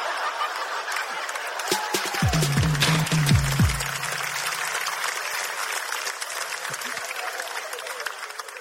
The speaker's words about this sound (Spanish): Un fuerte aplauso para mi amiga, muchas gracias.